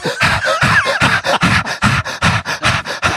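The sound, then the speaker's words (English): A person imitates their dog panting after getting too hot in a silent movie theater, with a quick, steady run of about fourteen breathy huffs, fairly loud, with no talking. “So he like, or she like seduces Dick Tracy and like is doing some like seduction thing, and the whole theater is fucking silent except my dog gets too hot and starts just going.”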